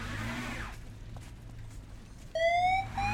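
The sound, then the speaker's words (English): A low engine rumble and passing whoosh give way to a loud police siren that bursts in near the end, its bright harmonic wail sweeping upward in pitch, as police come to rescue a driver whose car ended up in a snowbank. “Luckily, the police come and rescue him.”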